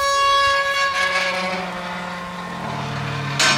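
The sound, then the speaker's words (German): A large metal gate in Maribo, leading to a former cemetery and church forecourt, swings shut with a drawn-out, tonal metallic scrape and a low rolling rumble, ending in a sharp clank as it closes. “Wir wollten erstmal euch ein wunderschönes Tor demonstrieren.”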